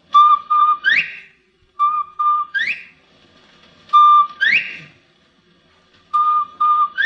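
A bobwhite quail whistles its call four times, each phrase two short level notes followed by a loud, sharply rising whistle, with brief pauses between repeats and no talking.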